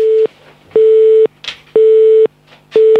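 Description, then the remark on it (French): A telephone busy tone after a call ends: a steady mid-pitched beep repeating in even half-second pulses with short gaps, loud, with faint line noise between beeps and no talking. “Ben voilà, simplement le temps de couper le téléphone et c'est parfait.”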